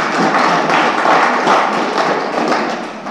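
A group applauds steadily to congratulate the winner of a photo competition, many hands clapping in a dense, crackling wash that holds at an even loudness for about three seconds. No one speaks over it.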